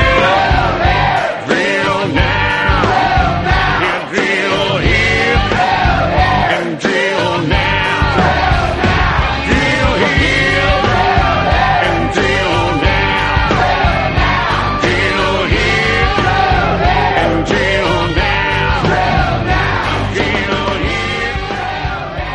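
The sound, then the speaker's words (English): A loud political country song about what Americans should do to fix the problem plays steadily, a full band driving under a chorus of many voices shouting together in unison, energetic and crowd-like throughout. “a song about what Americans should do to fix the problem”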